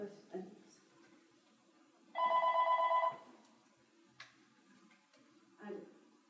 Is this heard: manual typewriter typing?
no